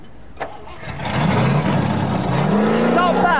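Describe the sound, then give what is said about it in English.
A diesel engine cranks and catches, then settles into a steady, loud running rumble with a rising rev near the end, run to make smoke. No talking. “Got a nice tick over.”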